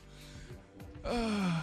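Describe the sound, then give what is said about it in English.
A goat, Rammy McRamface, at Grand Fire and Rescue Station 96, bleats once, loud and nasal, its wavering cry sliding downward in pitch for about half a second after a stretch of low, quiet murmuring. “Boy, that goat wanted some attention.”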